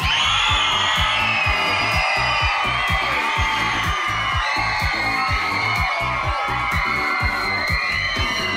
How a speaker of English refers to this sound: Audience support is a key component in today's event and will impact heavily on the scoring. The MC takes the pulse of the crowd. He asks them to cheer for their favorite dog. Miss Ellie.